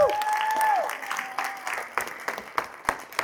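A crowd applauds with a whoop or cheer rising over the clapping, then the ovation thins out into a few scattered, separate claps over about three seconds.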